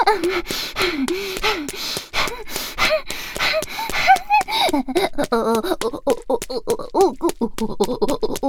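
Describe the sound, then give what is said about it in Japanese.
A voice imitates a pig snorting through the nose: a fairly loud run of rapid nasal snorts and breathy gasps, growing quicker and more clipped toward the end. “僕ちゃんに気に入られるためなら、ブタバナしながら見境なく鼻息フフしちゃう。”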